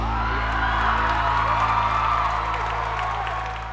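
applause and cheering

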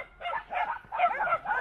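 puppies barking and yipping

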